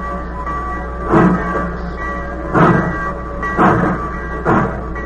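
A passenger train pulls away at night, a steady low rumble and hum broken by four loud, regular bursts of chuffing roughly a second apart, with no voices.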